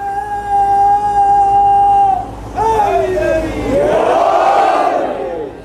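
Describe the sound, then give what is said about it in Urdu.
A crowd chanting a religious slogan: one long, steady sung call rings out, then many voices roar back together in a loud, surging unison response that swells and fades. “ایسا نعرہ تو نہ لگائیں، نہ لگائیں، پتا چلے گیلی والے بیٹھے ہوئے ہیں.”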